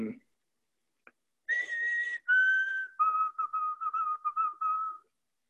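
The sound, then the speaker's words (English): A person whistles an imitation of a white-throated sparrow song: two long clear held notes, then a run of quick repeated notes at a steady lower pitch, fairly loud with no talking over it. “It's a white-throated sparrow. Oh, could I see that again? And while you hold it up, could you sing it again?”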